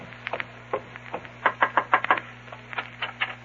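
Knocking on a house door: a run of sharp wooden raps, scattered at first, then a quick, louder burst of about six knocks, trailing into a few softer ones over a low steady hum.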